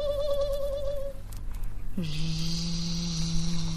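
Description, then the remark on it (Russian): A thin, steady mosquito whine drones, wavering slightly at first, then breaks off and resumes as a lower, continuous buzz over a faint background hum. “Сиди, сиди, сейчас ты у меня почешешься, я комар-кровосос, уж насосусь крошки.”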